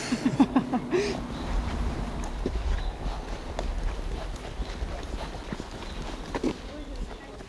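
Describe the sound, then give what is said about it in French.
Donkey hooves clip-clop in an uneven, shuffling rhythm over hard ground in the Lozère, France, with a low outdoor rumble and voices talking in the background. “Allô, on est devant l'hôtel, et les ânes, ils ne veulent pas avancer.”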